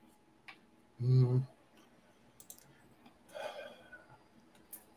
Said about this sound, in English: I'm just typing to someone in chat.